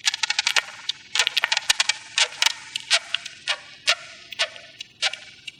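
Beetles make their distinctive rapid, irregular series of sharp, high-pitched clicks and short chirps, some in quick clusters and others spaced apart, steady in loudness with no voices present, in a recording by David Dunn.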